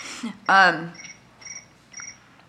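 Cricket chirping: a louder burst followed by three short, evenly spaced chirps about half a second apart, clear against a quiet background, with no talking.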